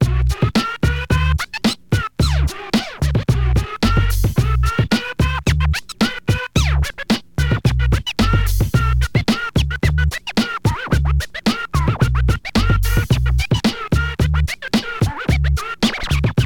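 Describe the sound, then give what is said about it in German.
Turntable scratching cuts rapidly back and forth over a steady, pounding bass-heavy beat, with choppy rhythmic bursts and swooping pitch sweeps running loud throughout. “DJ cut it up and ring the alarm.”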